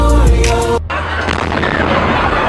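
A loud explosion at a marathon booms after a brief, tonal, droning sound cuts off, then leaves a heavy, rumbling roar of noise that carries on to the end.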